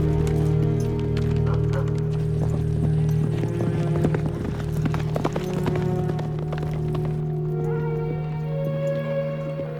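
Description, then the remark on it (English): Horse hooves gallop in a quick, steady rhythm of sharp thuds as a ridden horse gallops down the far side of a hill, with a constant low droning hum running underneath the whole time. “He reaches the top, then hearing the dog, gallops down the other side.”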